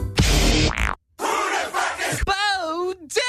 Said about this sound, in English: Well, it's a fucking explosion. Yeah. I forgot we added that.